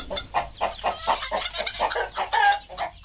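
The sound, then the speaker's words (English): Many chickens cluck and chatter together in a dense, continuous flock sound, with overlapping short calls and no talking, on a poultry farm on the outskirts of Yaoundé, Cameroon. “Nili Ondobo cleans her chicken and pigs at Corbison on the outskirts of Cameroon's capital”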